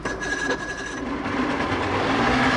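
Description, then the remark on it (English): The motor of a small blue boat on the Gowanus starts and rumbles in a steady, loud drone with a faint whine, its tone thickening slightly after a second as it settles into an even idle. No one speaks. “Listen to that baby purr.”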